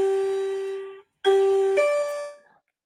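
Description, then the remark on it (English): A two-part transition bell chime rings out alone: a bright sustained tone fades after about a second, then after a short gap a second struck tone with a shifting pitch rings and decays. “That was the you get off of Memphis and get on to the next team bell.”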